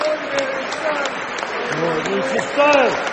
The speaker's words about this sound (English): And here comes Graham Potter towards us. Yeah, he's applauding the fans. Fantastic. Graham Potter leading them, applauding us. He's got the whole squad behind him, all the wags in tow as well.